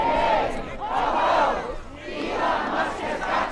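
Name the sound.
crowd chanting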